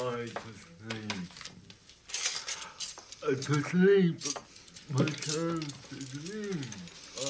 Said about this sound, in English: She grabs a bundle of silverware and towels them dry.